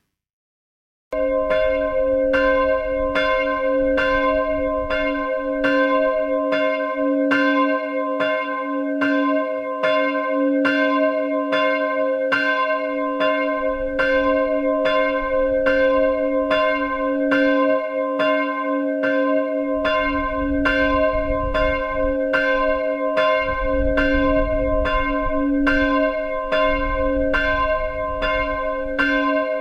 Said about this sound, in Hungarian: Rudle Ignác volt, akinek a következő munkáját fogjuk meghallgatni, az Orfű Mecsekszakáli templomból egy kisebb méretű harangot, egy C hangra hangolt 155 kilós, 70 cm alsó átmérőjű Rudle Ignác féle harangot, amit a mester 1927-ben öntött.